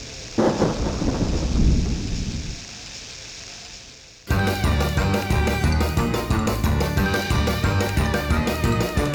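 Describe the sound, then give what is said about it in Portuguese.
A loud, deep rumble of thunder rolls over steady hissing rain, then fades into the rain alone before a rhythmic, beat-driven passage abruptly takes over for the rest. “Un día de tormenta, a bruxa Catuxa intentou botala da casa, pero non o conseguiu.”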